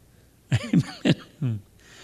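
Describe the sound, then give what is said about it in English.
Four quick coughs in a row, fairly loud and raspy with a voiced edge, the last one drawn out a little longer and lower before quiet returns. “I knew that'd get me coughing.”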